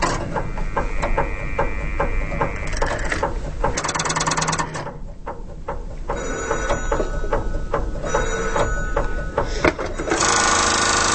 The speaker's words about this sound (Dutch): Een huiscentrale voor kleine kantoortjes. Wat je net hoorde, dat gebeurt er allemaal als je je collega aan de telefoon probeerde te krijgen. Grote hefdraaikiezers en eindeloos veel relais deden het hele werk.